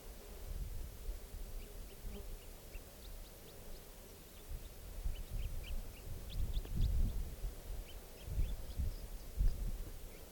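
wild bird calls

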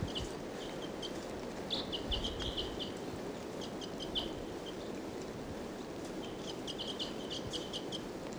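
wild bird calling

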